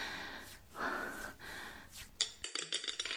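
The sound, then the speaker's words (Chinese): Soft breathing and gasps, then a student's pencil drops onto a hard floor with a sharp clack followed by a quick series of light, rattling bounces that fade out. “啊，铅笔掉到地上了，他是故意的”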